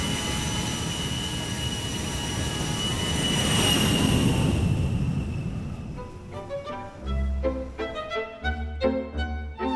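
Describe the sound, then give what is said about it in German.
A jet airplane for a flight to Istanbul: its engine roars with a high whine, swelling to a peak and then fading away, before a short stretch of plucked, melodic music takes over. “Ich kann also beruhigt und mit einem sicheren Gefühl einsteigen in Flieger nach Istanbul.”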